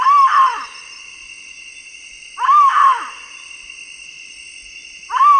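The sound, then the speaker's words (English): A hyrax of the kind heard in eastern Nigeria gives loud, harsh cries like a human scream in three bursts spaced a couple of seconds apart, over a steady high-pitched drone of night insects. “Here's a hyrax call like the ones Oates and his colleagues heard in eastern Nigeria.”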